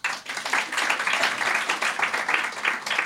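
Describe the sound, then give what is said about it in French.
An audience in a hall bursts into sustained applause to answer who gets a sore throat when ill, dense overlapping claps filling the room at steady loudness for a few seconds without a pause. “Attends, par applaudissement, qui est malade de la gorge quand IL est malade?”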